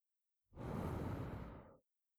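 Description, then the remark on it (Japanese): A single long, soft exhale blown into someone's ear, a breathy rushing hiss lasting just over a second before trailing off into silence, with no voice alongside. “あらあら、耳元に吐息をかけられただけで、ビクビクしてるわよ。”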